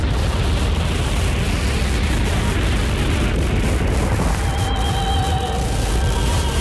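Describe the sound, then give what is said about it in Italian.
A loud, dense instrumental music track playing in the background during a short pause in an interview, with a roaring, rumbling, noise-like texture throughout; thin sustained tones rise out of it during the final two seconds. No one speaks. “E facciamo una piccolissima pausa dell'intervista e sottofondo sentite il brano”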